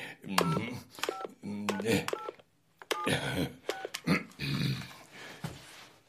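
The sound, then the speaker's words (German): A phone number being dialed from memory on a borrowed mobile phone with an elephant's trunk: a series of about six clear keypad tones, each a short dual-pitched beep at an uneven pace, mixed with rustling and vocal noises. “Darf ich dein Handy benutzen? Ich kann die Nummer auswendig.”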